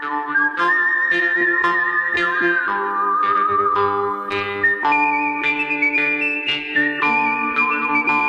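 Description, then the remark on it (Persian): A clear, sustained whistled melody from an Italian composer's western film score glides between held notes over a full instrumental backing with steady rhythmic accents, loud and continuous throughout, with no voices. “آهنگسازی فیلم‌های وسترن خیلی معروفی رو انجام داده، مثل یه مش دلار، خوب بدش، همون ملودی‌های خیلی معروف از صوت استفاده کرده”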